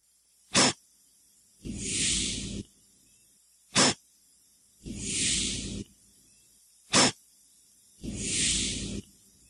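Devil's urn cup fungus (Urnula craterium) hissing out its spores: three repeated cycles, each a short sharp puff followed by a longer, airy hiss lasting about a second, with no voices.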